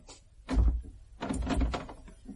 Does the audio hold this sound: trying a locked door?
yes